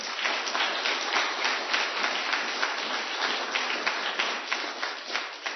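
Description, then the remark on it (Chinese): A crowd applauds steadily for several seconds, a dense, even patter of many hands clapping at once, moderately loud, with no one speaking, cheering on the brothers and sisters of Sanjingcheng (三井城) at a Christian gathering. “我为我们三井城的弟兄姐妹们鼓掌加油，你们是被耶稣基督的爱所俘虏的”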